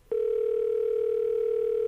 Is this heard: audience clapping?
no